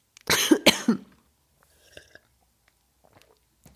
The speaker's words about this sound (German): …, nimm mal bitte einen Schluck aus deinem Glas.